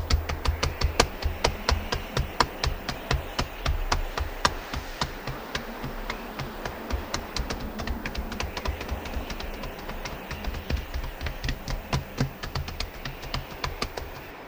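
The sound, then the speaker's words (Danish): Fingertips drumming to imitate branches drumming on a windowpane in autumn wind: quick, irregular patter for the whole stretch, a dense run of light taps over a low steady hum, with no talking. “Grenene trummer på ruden.”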